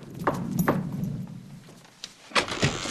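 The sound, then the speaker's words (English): A trick-or-treater dressed as a punk rocker knocks on the door of the Addams Mansion on Halloween night: two sharp raps, a pause, then two more, each a hollow thud over a low, steady rumble. No one speaks. “One, dressed as a punk rocker, knocks on the door.”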